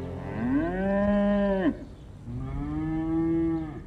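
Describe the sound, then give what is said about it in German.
A cow moos twice in a row, each call a long, loud, drawn-out low bellow, with no other sounds around it. “Kühe sind ein Mysterium, kosmisch und erdverbunden zugleich.”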